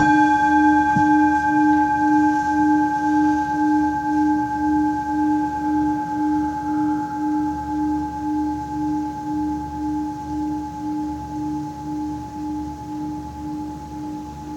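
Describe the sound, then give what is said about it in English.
A bell is struck once to close a group session and rings on with a steady, layered tone that pulses gently as it slowly fades over about fifteen seconds, with no voices. “Just to close this out, I'll ring the bell and let's just listen to the sound of the bell as it dies, and when we can no longer hear it, let's come back to the room.”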